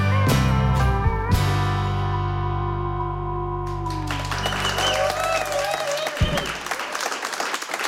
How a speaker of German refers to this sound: Nur für Radio 1 spielen sie jetzt nochmal live und dafür wünsche ich mir jetzt nochmal einen großen Applaus für